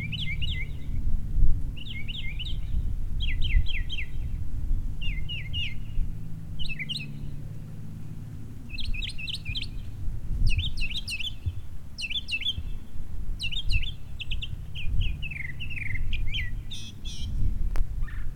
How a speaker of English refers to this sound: It's just a bird. No, it's not that it bothers me during the day.